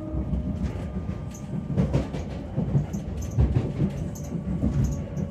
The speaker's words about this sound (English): We are now approaching London King's Cross, where this train completes its journey.